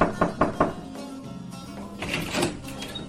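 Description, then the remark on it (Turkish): A neighbour knocks three quick, evenly spaced times on Nasreddin Hodja's door, followed by a short stretch of low background noise and a muffled shuffling rustle. “Nasrettin Hoca'nın kapısı çalınmış, hoca kalkıp açmış ve komşusunu elinde boş bir bardakla görmüş.”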